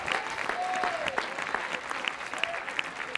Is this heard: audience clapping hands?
yes